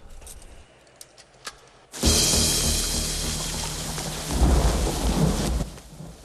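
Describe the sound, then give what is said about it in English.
Heavy rain in a film scene, as Cash runs out in it towards a dumpster, bursts in after a quiet stretch with a few faint clicks, becoming a loud, dense, steady roar with deep rumbling underneath, swelling slightly toward the end. “Observed by guards on security TV screens, Cash in a sleeveless white t-shirt and jeans runs out in the rain towards a dumpster.”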